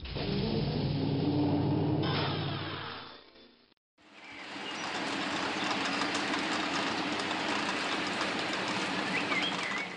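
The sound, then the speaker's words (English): A low, humming drone runs for a few seconds and cuts out briefly. Then a gentle rain sets in on a porch, a steady, even patter that holds at the same level to the end, with no voices. “Sitting on Grandma's porch and listening to a gentle rain is a great way to relax between shifts.”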